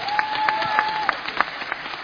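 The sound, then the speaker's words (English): An audience claps for Jesus together in a steady rhythmic beat, crisp, with a thin sustained whistling tone hanging over the first half. “I need to clap for me. I say clap for Jesus.”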